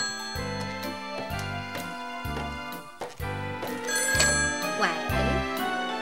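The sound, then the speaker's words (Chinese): A telephone in a living room rings insistently in repeated bright, jangling bursts at a steady rhythm, loud, with a dense tonal backdrop sounding underneath throughout. “突然客厅里的电话响了起来。”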